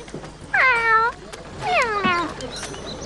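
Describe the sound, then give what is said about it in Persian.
A walking cat meows twice, each call drawn out and tonal with a pitch that rises slightly and then slides down, separated by a short pause over a faint noisy background. “چوچه یک بشک در حال قدم زدن دید.”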